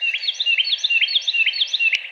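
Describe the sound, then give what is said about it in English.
A bird sings its full song, a rapid, continuous run of repeated bright, warbling phrases, clear, with no voices or other sounds around it. “But by the time I got my phone out, he'd stopped doing that and was singing his full song.”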